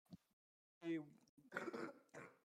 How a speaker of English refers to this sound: Don't cough on me! No, you coughed on me.